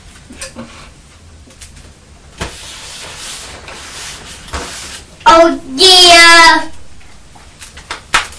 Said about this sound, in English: Crunching some of the cornflakes that are left on your tray. You're crunching them with your hands. Oh, yeah. Cornflakes don't make a noise like Rice Krispies, do they?